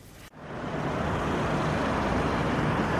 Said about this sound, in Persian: اگرچه خیابان‌های مرکز لندن همچنان شلوغ است و ترافیک جریان دارد، اما در بعضی از قسمت‌های آن ساکنان محلی از ایده کاهش ترافیک در روز جهانی بدون خودرو استقبال کرده اند.